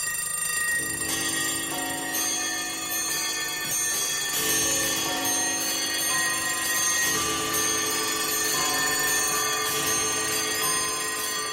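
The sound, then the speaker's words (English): A loud clamor of many alarm clocks ringing at once, layered metallic bells jangling continuously, with fresh bursts of ringing joining in every few seconds. No voices. The ringing is the opening of a rock song. “That alarm clock beginning in the middle of the night, you don't want to hear that.”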